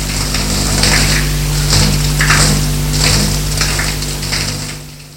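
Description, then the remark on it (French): A handheld shower head, held by hand because its holder is broken, sprays a jet of water into the shower in a steady hiss that surges in repeated pulses as the jet sweeps around, over a low mechanical hum, with no voices. “Il sort de la douche et donne un coup de jet dans la baignoire, enfin dans la douche.”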